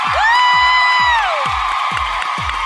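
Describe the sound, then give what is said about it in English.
A room full of people clapping and cheering loudly to vote on which of two show hosts is 'Mr. All I Do Is Win', with a rising whoop riding over the noise early on and steady, rhythmic low thumps underneath, no talking. “If you think Eddie is Mr. All I Do Is Win, clap your hands.”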